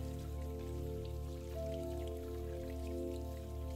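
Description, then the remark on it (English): Steady running water from a tap pours and splashes continuously into a sink, an even wash of sound with a faint underlying hum and no voices. “Hear the splashing as the water cascades into the sink.”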